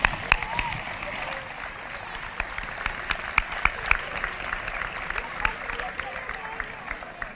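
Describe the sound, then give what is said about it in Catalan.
A crowd claps steadily throughout, thanking the festival committee and town council at the opening of a ten-day town festival; a dense, sustained wash of applause with sharp individual hand claps popping out, moderately loud and continuous for several seconds. “Un fort aplaudiment.”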